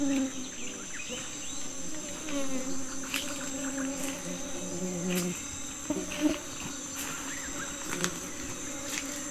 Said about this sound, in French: Tu comprends pourquoi on l'appelle la forêt des abeilles, hein?